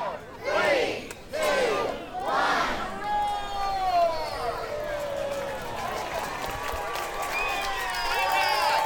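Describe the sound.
A crowd shouts a countdown of three loud, evenly spaced counts together, then erupts into sustained cheering, whooping and shouting voices that carry on to the end, at the unveiling of the new Mr. Tiger statue in the Adamson Spaulding Storybook Garden in Abilene, Texas.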